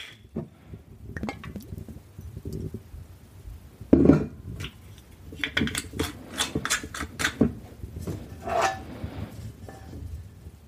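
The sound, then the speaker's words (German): A metal pan clanks down onto a stovetop to be heated, followed by a run of clinks and small knocks of kitchenware as a little olive oil is added, moderately loud, with no one speaking. “Stell sie auf den Herd und mach die erstmal heiß. Kommt noch ein bisschen Öl hinzu.”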